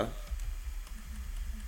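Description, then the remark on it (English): Faint, irregular clicks of the A and G keys being pressed on a computer keyboard while playing a game, a handful of soft taps spread out over a low background hum, with no one speaking. “I'm hitting A and G now.”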